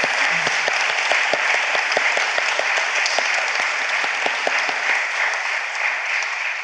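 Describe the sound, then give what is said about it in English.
An audience claps steadily and loudly for the speakers who have done an amazing job, many hands making a dense, even patter that holds at the same level throughout, with no voices rising above it. “I'm going to just get everyone to, first of all, clap, because I think these guys have done an amazing job.”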